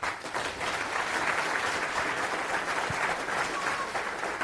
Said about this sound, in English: Applause.